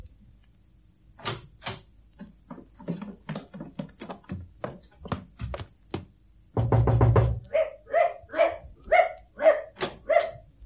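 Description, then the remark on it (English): A dog named Bunter barks over and over, short sharp barks at first, then a rapid flurry and a run of louder, higher barks. No one speaks. “All right, Bunter, there's a good dog.”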